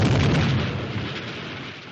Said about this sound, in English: Immediately after that, there was an explosion.